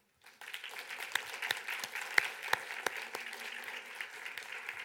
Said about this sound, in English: I would like all the women here, including the young woman, everyone here, to give these guys a clap.